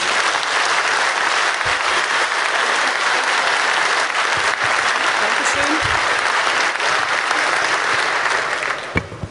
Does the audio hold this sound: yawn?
no